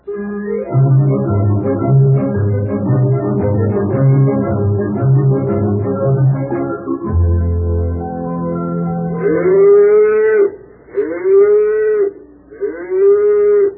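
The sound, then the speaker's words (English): After a stretch of music, cows (not bulls) moo loudly, three long drawn-out calls in quick succession with short pauses between them. “Well, darling, they're just cows. They're not bulls.”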